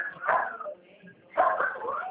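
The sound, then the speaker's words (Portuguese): Dogs barking in two bursts: a short flurry of sharp, mid-pitched barks, a brief lull, then a longer, busier run of overlapping yaps. No one talks over them. “Já rapidinho vou espantar ele aqui, senão os cachorros não deixam eu conversar.”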